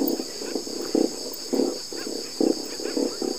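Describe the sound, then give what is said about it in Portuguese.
Corvina fish vocalizing underwater in the Guaporé River, Brazil, heard from a boat: a steady run of low, croaking drum-like pulses in short irregular bursts, with a constant high insect-like whine running beneath them. “A gente estava em cima do barco e começou a ouvir aquele barulho que no início eu achei até que eram sapos, mas eram curvinas vocalizando embaixo d'água e a gente do barco conseguiu ouvir.”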